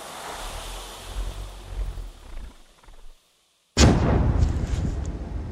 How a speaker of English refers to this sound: Now, because it landed way over the wall, the soldiers can't see the explosion. They don't know what's happened.